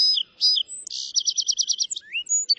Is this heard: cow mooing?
no